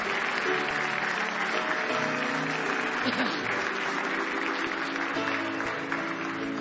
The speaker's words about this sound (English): Give Him a big hand clap of praise this morning if you love Him.